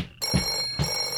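telephone ringing

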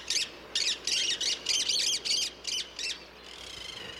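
monk parakeet squawking calls

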